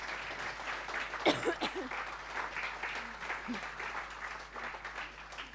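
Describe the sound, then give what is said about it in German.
An audience applauds warmly, a steady wash of many hands clapping for several seconds to welcome a guest. A brief voice or cheer breaks through early on, and scattered voices murmur under the clapping. “Das ist nicht schlimm, weil alle dürfen jetzt noch mal einen herzlichen Applaus geben”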